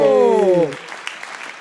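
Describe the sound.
A voice calls out with a long falling pitch, then gives way to a brief burst of audience applause, a steady patter of many hands clapping at moderate loudness.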